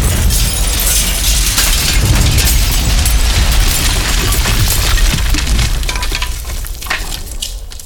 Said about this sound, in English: Somehow, I got blowed out by the explosion. That hurt. Ow.